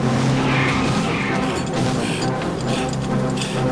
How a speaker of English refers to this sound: The lorry drags the chopper down into the concrete embrace of an oncoming tunnel.